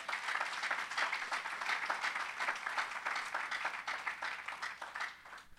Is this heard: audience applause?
yes